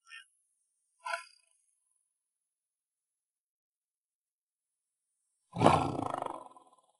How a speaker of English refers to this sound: But this is the home of an animal so rare, it's almost mythical. A Siberian tiger. There are less than 600 of them.